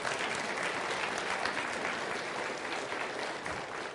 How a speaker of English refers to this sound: You can take a seat, and you guys should give them a round of applause.